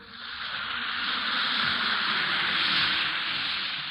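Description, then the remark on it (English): A steady fizzing hiss of an Alka-Seltzer tablet dissolving in water, bright and continuous for the whole stretch with a faint crackle of popping bubbles underneath. “Listen to it fizz.”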